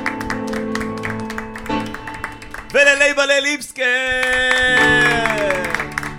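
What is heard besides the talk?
audience applause and cheering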